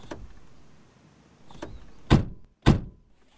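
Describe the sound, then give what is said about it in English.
People get into a rented car and buckle up: faint shuffling and a couple of light knocks, then two solid door thunks about half a second apart, with quiet rustling between and after. “Now we can get in and buckle up.”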